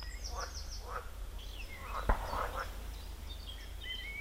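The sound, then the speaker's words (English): Frogs croak in short repeated bursts across an outdoor pond in an old mine crater, overlapping, with higher chirping calls mixed in and a single sharp crack partway through from a gas canister fired over the fields to keep birds off the seeds. “And now it looks like a lovely pond, complete with frogs.”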